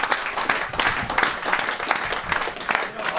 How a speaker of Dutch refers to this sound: Dus op een gegeven moment, ik zou toch een applaus willen vragen voor het bestuur en alle.